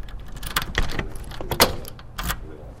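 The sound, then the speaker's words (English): Keys jangle and clink in a few short bursts at a locked door of the Armed Forces Recruiting Center in Tukwila, Washington, with bright metallic rattles scattered over about three seconds against a low, steady background rumble. “The first thing a potential recruit will encounter at the Armed Forces Recruiting Center in Tukwila, Washington, is a locked door.”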